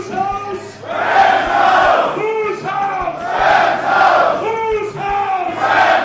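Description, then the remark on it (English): A loud crowd of NFL fans in a London pub roars and chants together, voices rising in rhythmic swells every second or so, with sustained sung shouts over a constant din and no single speaker standing out. “There's a Torrey Holt Pro Bowl jersey here at the pub, and you see that these players who have been legends, how long these fans have been fans.”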